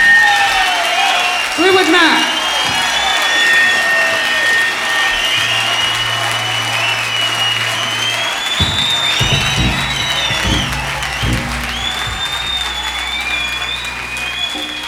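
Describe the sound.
Loud, sustained audience applause for a band at the end of its first set, with shrill whistles and scattered cheers rising over the dense clapping, a low hum and indistinct voices underneath.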